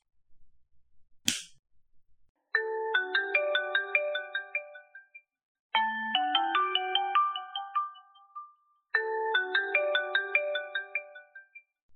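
A sharp click, then a phone ringtone for an incoming call plays a bright, chiming electronic melody three times in a row, loud, with no voices over it.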